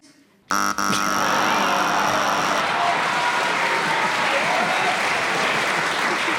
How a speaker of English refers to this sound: Oh, the buzzer is a cruel mistress.